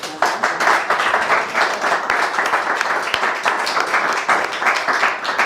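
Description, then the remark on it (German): Steady audience applause: many hands clapping in a dense, continuous patter that holds at an even, fairly loud level for several seconds with no talking over it. “Ja, gibt es Applaus von unserem Publikum her.”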